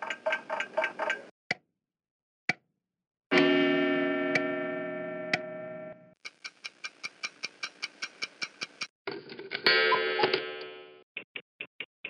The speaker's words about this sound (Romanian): Tot la fel, cu ani în urmă, am nimerit în Franța, la Strasburg, chiar în centru, lângă catedrală, într-un magazin plin cu tot, dar cu tot felul de ceasuri. Le-am înregistrat pe câteva dintre ele.